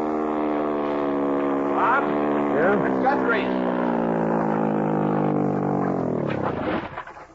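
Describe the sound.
A motorboat engine drones steadily and loudly, then winds down at night, its pitch dropping as it throttles back to pull up next to another boat tied to a dock. It fades out at the end, with a faint voice briefly audible underneath.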